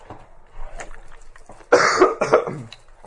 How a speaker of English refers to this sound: You'll just have to put up with me in all this coughing and nonsense.